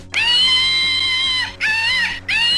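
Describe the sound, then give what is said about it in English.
A slingshot monkey toy lets out shrill, piercing electronic screeches: one long wail, then two shorter bursts in quick succession, loud with no talking. “you throw it and it makes that monkey screeching sound”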